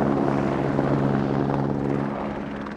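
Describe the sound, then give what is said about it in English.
A helicopter flying outside an apartment drones steadily overhead, its rotor producing a continuous low, pulsing throb with a broad engine roar that fades slightly toward the end; no one speaks. “is that a helicopter outside the apartment?”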